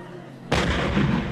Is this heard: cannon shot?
yes